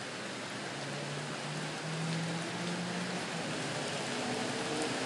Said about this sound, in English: You may hear a difference in the sound of the rain. Now you're hearing it off the ground and the tree, as opposed to the aluminum roof above my studio outside, also known as the porch, also known as the alcove.